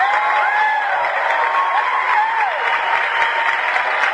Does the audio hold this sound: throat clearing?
no